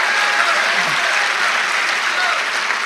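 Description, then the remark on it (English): An audience claps steadily, a dense, even wash of many hands that holds at the same fairly loud level for about three seconds, with faint voices mixed into the applause. “If you want to go there with me tonight, clap your hands and let us know.”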